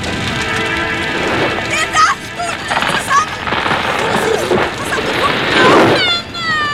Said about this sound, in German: Und wenn ich gerade dort unter den Bäumen bin, höre ich so ein eigenartiges Knistern. Der Dachstuhl bricht zusammen! Vorsicht, kommt auf die Funken auf!